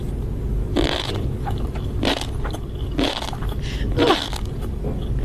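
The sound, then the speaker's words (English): Crunchy chewing of tobiko eggs and sea grapes by a woman eating from a plate, about four crisp, wet crunches spaced roughly a second apart over a steady low background hum, with no talking. “And now she puts it in her mouth and she starts crunching it. So listen to it's this. Tobiko eggs and sea grapes.”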